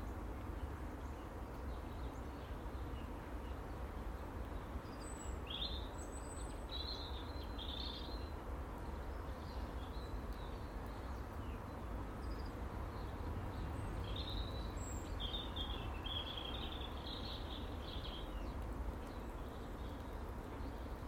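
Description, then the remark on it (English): Birds chirp and sing intermittently over a steady outdoor ambience on a rainy morning, with short bursts of calls scattered through a broad, constant background hiss. “I just closed my eyes, listening to the birds, nature.”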